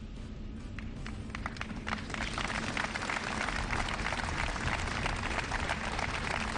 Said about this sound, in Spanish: Un minuto de silencio que ha finalizado con aplausos.